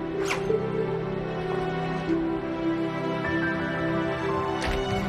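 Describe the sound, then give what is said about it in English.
The zipper of a costume bag rasps shut in two short, scratchy bursts, one at the start and one near the end, over a steady, sustained musical drone. “She exits and Harrington zips up the costume bag.”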